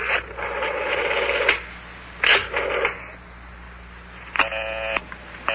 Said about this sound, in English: Is everybody talking on the telephone to one another? Boy, every number I dial is busy.